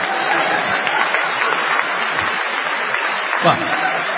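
An audience claps steadily for about four seconds, a dense, even wash of many hands, with a slight swell near the end.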